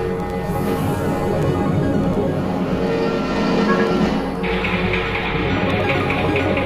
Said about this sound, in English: As the train begins its trip, a bearded man stands near the water cooler.